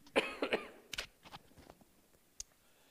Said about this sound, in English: I'm going to cough and I'm going to